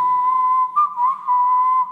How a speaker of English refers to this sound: It's 1963. And I think I hear whistling from deep in the prison.